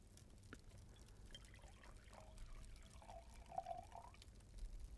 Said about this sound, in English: relax, and pour another glass of wine.